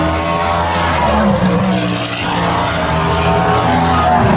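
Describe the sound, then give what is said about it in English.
Two Cadillac race cars roar past during a race, their loud, throaty engines blending into one sustained howl with a brief dip between them. No one speaks. “A pair of filthy Cadillacs.”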